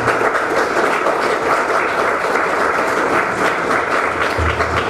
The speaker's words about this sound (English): We'd like to give another hand of applause to his holiness, please.